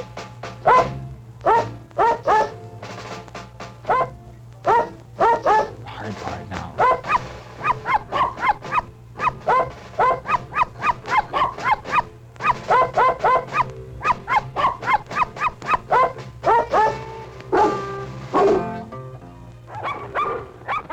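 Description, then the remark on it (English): A chorus of performing dogs barks and yelps in rapid, rhythmic bursts for about twenty seconds, 'singing' a song and turning backflips as they do, the overlapping barks rising and falling like a sing-along over a steady low hum. “Well, would you like to hear him sing another one?”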